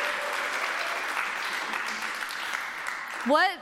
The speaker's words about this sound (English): Can we give one more round of applause for all four of our storytellers?